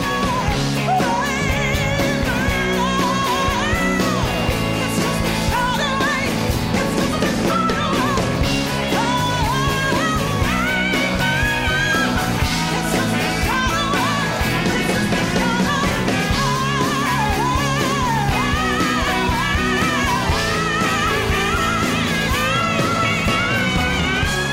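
A loud, dense live rock performance with a full band driving steadily throughout, while a high female voice wails and slides over the top in long, soaring lines.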